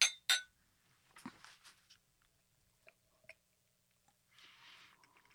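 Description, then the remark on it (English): Two bright, sharp clinks of glasses tapping together in a toast at the start of a spirit tasting, followed by quiet handling clatter and a soft slurping sip near the end. “Shall we jump in? Sure. Sure. Cheers. Cheers. Cheers.”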